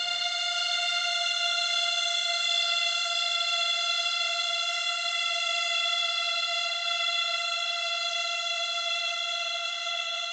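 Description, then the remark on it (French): A cicada sings loudly at dusk, heard from a few metres away, in one unbroken, steady drone, a bright buzzing tone rich in overtones that holds its pitch and volume for the whole stretch, with no voices. “c'est très surprenant parce que j'avais déjà entendu cette cigale-là, mais je ne savais pas exactement ce que c'était.”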